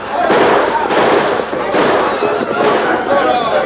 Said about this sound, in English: We fired those shots.